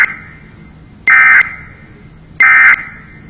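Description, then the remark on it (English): Emergency alert end-of-message code tones, sent when a message is finished as a string of four N's: two short, harsh, buzzy bursts of warbling data tones, evenly spaced about a second apart, with a faint steady hum between them and no talking. “And then when we're done and we like what we've sent, we send the end of message code, which is a string of four ends, which also does not exist in any word that's in the dictionary, which sounds like.”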